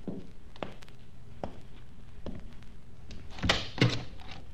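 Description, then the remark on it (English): A door being handled: a few soft clicks and bumps, then a louder latch clunk and a heavy thud near the end, with no one speaking. “Please close the door and come in.”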